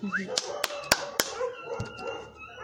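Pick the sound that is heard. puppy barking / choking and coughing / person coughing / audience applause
puppy barking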